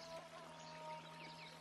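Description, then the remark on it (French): A stream trickles steadily, a soft continuous wash of running water with no pauses, heard on its own, faint, with a low steady hum underneath. “Il s'était traîné au bord d'un ruisseau.”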